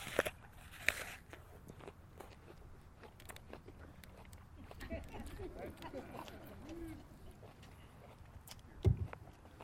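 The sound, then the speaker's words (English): Someone bites into a crisp apple, then chews steadily with wet, crunchy sounds, ending with another sharp crunch near the end. “You guys have to be patient now while I chew this up, okay?”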